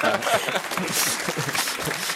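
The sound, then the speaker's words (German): An audience applauds in a dense, steady wash of clapping that holds at an even level for about two seconds, with faint voices murmuring underneath. “Lassen wir die Leute rasch klatschen zuerst.”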